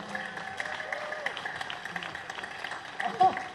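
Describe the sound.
An audience applauds steadily for a few seconds, a dense crackling wash of many hands clapping, with faint crowd voices mixed in and a brief louder burst near the end.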